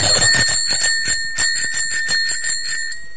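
A 5-guilder bicycle bell at a bicycle repair shop rings rapidly and repeatedly, a bright metallic trill of quick strikes with sustained ringing tones, fairly loud, with no one speaking.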